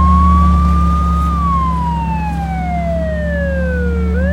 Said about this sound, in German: Fahren wir mit Blaulicht und Sirene? Selbstverständlich. Ja! Cool.